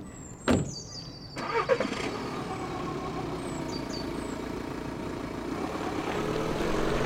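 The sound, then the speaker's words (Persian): A car engine, on a car two years past its production date, turns over with a short burst, then settles into a steady running hum that slowly builds as the vehicle pulls away. No one speaks. “تو سوار شدن ماشین به مادرم کمک کردم.”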